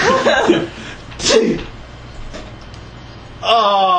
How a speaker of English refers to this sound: Oh, you feel better though. That's an expensive sneeze.